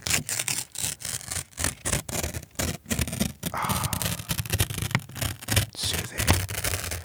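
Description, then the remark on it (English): Paper being ripped, a long series of crackly tearing bursts with brief pauses between them, steady and fairly loud, with no voices. “As we listen to the paper rip”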